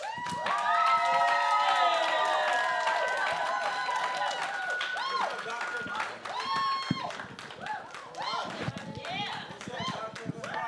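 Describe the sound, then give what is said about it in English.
A church audience claps steadily throughout in praise to welcome a minister coming up to preach, with dense, irregular hand claps mixed with loud cheering and shouting voices, some rising and falling in pitch, before the noise tapers slightly toward the end. “As I present to some and introduce to others, y'all give this man of God a hand clap of praise as he come.”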